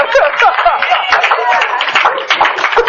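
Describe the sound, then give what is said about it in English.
A crowd applauds a track athlete whose season has just ended, many hands clapping together in a dense, continuous patter at fairly strong, even loudness for a few seconds. “We give her a hand clap.”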